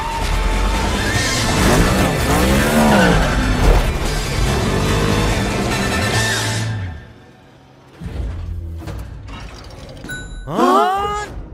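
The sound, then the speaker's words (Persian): A stolen car's engine roars and revs hard as it speeds off, with high squealing tones over the rumble, then cuts out abruptly before a short rising whine and rev near the end. “تو ماشینمو دزدیدی؟ دمت گرم. بزن بریم.”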